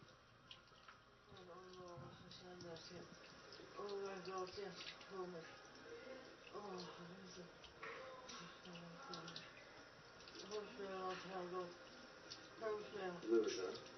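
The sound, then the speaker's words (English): Water runs steadily from a tap with knobs as a continuous hiss, while people talk over it. “Put the knobs to turn the water off.”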